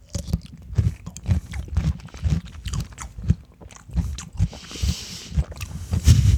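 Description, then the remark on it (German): Crunching as someone bites into a crisp salt-dill pickle and chews it, a steady series of wet, crunchy bites and chews with no talking over it. “So, ja, dann mal reinbeißen, ha?”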